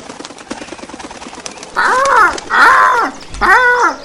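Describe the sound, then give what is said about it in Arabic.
A crow gives three loud, harsh caws in a row, each a rasping arched call, after a stretch of faint clicking background noise. “أحبتي الحلوين، بعد فترة قصيرة جاء الغراب وراح يبحث عن كيسه.”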